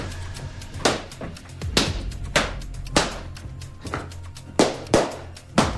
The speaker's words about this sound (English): Slow start. Oh, picking up now. Pointy shoes, mate. So it was stomping. Were you stomping? Nice.